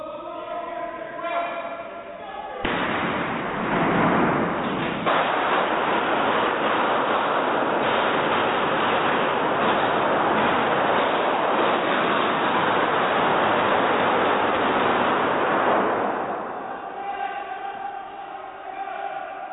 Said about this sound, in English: Are those guns? Those were guns. Oh, there was a gunfight. Dude started shooting back, I guess. And a lot of shooting.